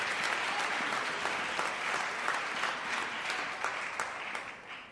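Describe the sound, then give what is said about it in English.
A church audience claps for Jesus, steadily and densely for several seconds. It is a loud, continuous wash of hand claps that tapers off slightly at the end, with no one speaking. “give another clap for unto Jesus.”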